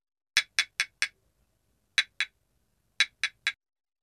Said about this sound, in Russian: Курица осторожно постучала по яйцу.